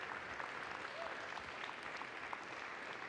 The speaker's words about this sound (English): Thank you for the band for all the work they've been doing for us today. They're going to close out in a moment. Yeah, round of applause for the band now.